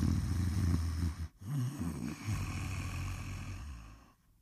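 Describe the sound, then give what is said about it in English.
A man snores heavily, with a deep, rattling rasp. There is a brief catch of breath before the next long snore, which trails off into quiet. “He's snoring.”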